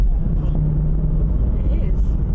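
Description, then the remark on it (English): A car with a flat tyre rumbles along, giving a heavy, steady low-pitched drone with a rough, grinding edge that fills the whole short stretch. “Is that my car? It does sound like your car.”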